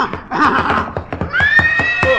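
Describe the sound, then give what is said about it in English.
A horse stamps with a run of sharp, irregular hoof thuds as a lantern is waved in its face, then lets out a loud, high, quavering whinny that carries over the continued stamping. “Stay clear of his hoof while I wave this lantern in his face.”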